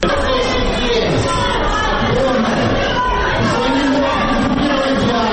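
A crowd in a hall shouts "Shame" together during the swearing-in of mayor Borys Filatov in Dnipropetrovsk, Ukraine, a loud, continuous roar of many overlapping voices that fills the space without a break.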